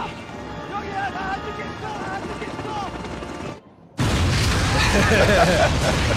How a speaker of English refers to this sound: The Good Doctor series finale is insane. The surgeon plants a bomb on Dr. Han's boat and then it explodes, fucking killing him.